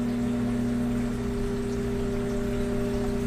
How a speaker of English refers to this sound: I love the sound of y'all's microwaves. I love that 100 hertz harmonic from the 50 hertz things that y'all have. So here's a little bit of mine. I'll just stand near the microwave and shut up for a minute.